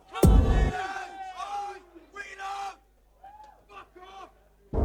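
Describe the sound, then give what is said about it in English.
A crowd shouts a call-and-response chant of a DJ's name in bursts: a loud opening yell followed by several shorter group shouts with pauses between, voices blended and rising in pitch. “When I say …, somebody say ….”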